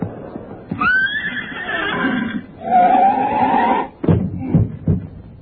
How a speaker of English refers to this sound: Come on, horse, boy! You keep going, boy. There's a glue factory just ahead there.